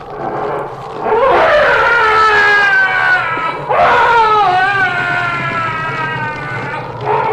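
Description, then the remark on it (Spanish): Two long, loud, wavering monstrous shrieks from a tentacled creature thrashing blindly with its writhing tentacles as it is burned by a torch, each rising then sliding down in pitch with a warbling, howl-like tone, followed by the onset of a third cry. No speech accompanies them. “El ser gritó, golpeando a ciegas con los tentáculos que se retorcían y que se contrajeron bajo la burbujeante ira de la antorcha.”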